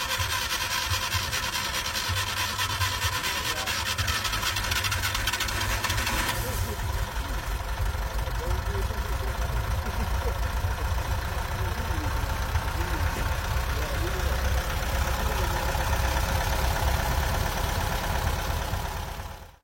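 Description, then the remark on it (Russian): The restored engine of a Zaporozhets car idles steadily, a continuous low, even rumble with a mechanical chatter on top, running without change for about twenty seconds before cutting off. The engine was reassembled during restoration to run without strain and more quietly than the original. “В процессе реставрации двигатель собрали так, что теперь он работает без надрыва и тише оригинала.”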